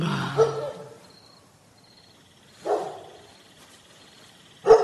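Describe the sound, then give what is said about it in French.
A dog barks three times, each bark separated by a couple of seconds of quiet, fairly loud with nothing else going on. “Je vais commencer par tuer ce chien, et puis on verra après.”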